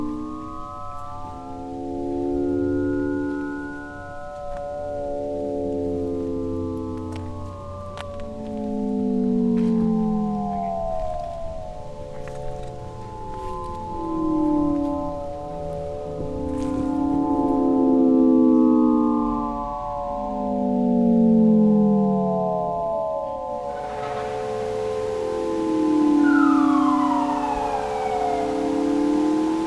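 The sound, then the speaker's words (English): Several fire engine sirens wail together over city traffic during a fire engine parade, their pitches sweeping up and down and overlapping continuously, loud, with a burst of rushing noise near the end. “Singing stones that pitch shift in and out of the traffic.”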